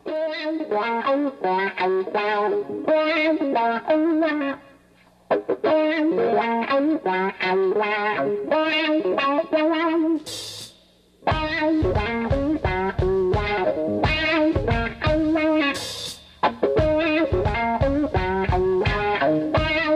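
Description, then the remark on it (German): A heavily effected electric guitar, using a wah-wah pedal, extreme distortion, spring reverb and echo effects, plays busy, sustained melodic lines with a fuzzy, distorted tone and a smeared, echoing tail, continuing loudly for the whole stretch with a couple of brief dips. “Das Ergebnis sind Wah-Wah-Pedale, extrem starke Verzerrer und psychedelisch wirkende Hallspiralen sowie Echoeffekte.”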